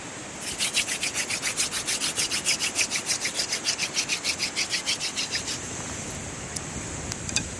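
Steady, regular strokes of wood rubbing against wood to make fire by friction, a rhythmic rasping scrape repeated about twenty times at an even pace before stopping, followed by a few faint clicks.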